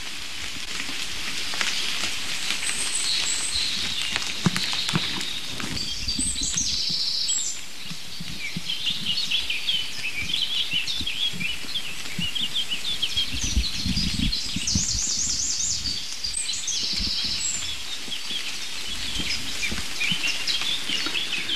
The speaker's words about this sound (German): Ich hangel mich mal zum nächsten Rotkehlchen und lass das Duett zwischen den roten kleinen Zweigsängern und der singenden Drossel links hinter mir.